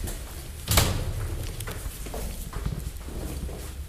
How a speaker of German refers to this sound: Hinter uns musste die Tür dann schnell zu, um keinen Alarm auszulösen.